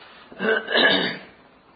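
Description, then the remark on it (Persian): Someone clears their throat in two quick, raspy bursts, the second longer and stronger, after a drop of water went down their throat, with no talking around it. “من یه قطره آب پریده تو حلقم، یه حدود نیم ساعت سینه صاف نمیشه”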